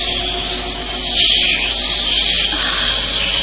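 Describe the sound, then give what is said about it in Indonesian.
A snake hisses in front of a door in one long, steady, breathy rush of sound that swells slightly partway through and keeps going without pause. No one speaks. “Ya, aku mendengar suara desisan ular di depan pintu itu.”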